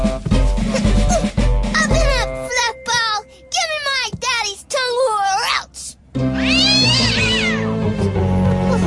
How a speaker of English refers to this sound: That is one tough kitty.